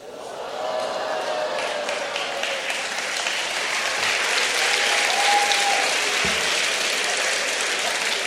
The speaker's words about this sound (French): Alors j'espère que vous applaudissez ce petit moment de libération.